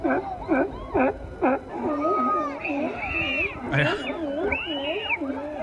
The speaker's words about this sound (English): I haven't seen the video yet, but I just love the audio of screams and sea lions going back and forth there.